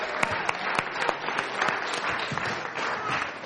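A group of people applauding steadily, with dense, continuous clapping and a few sharper individual claps standing out, moderately loud throughout.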